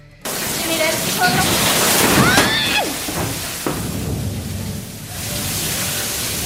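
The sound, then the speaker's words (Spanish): Steady rushing and sloshing of floodwater inside the flooded Palo Quemado judicial complex in Bogotá after a heavy afternoon downpour, loud and continuous for several seconds, with faint indistinct voices and a few brief clatters in the background. “En Bogotá se reportaron inundaciones y la caída de techos en el complejo judicial de Palo Quemado tras el aguacero de esta tarde.”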